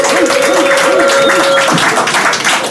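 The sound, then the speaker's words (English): Loud, sustained applause with cheering and whoops from a crowd welcoming Nick Cannon, a dense wash of clapping that holds steady throughout, with a long whistle-like tone running through the first half. “Everybody, make some fucking noise for Nick Cannon.”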